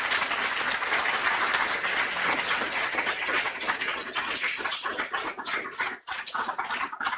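A conference audience applauds the people who worked to make the conference happen, a steady, dense wash of clapping that holds for several seconds, then thins toward the end into scattered individual claps as it dies down.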